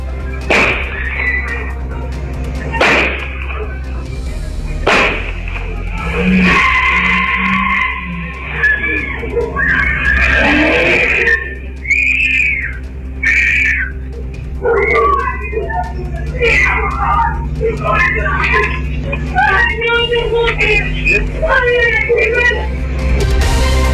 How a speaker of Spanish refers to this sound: Sí, y lo que ustedes escuchaban también en este audio serían disparos. Eso todavía no ha sido del todo confirmado por carabineros porque no hay evidencia balística, pero sí está el testimonio.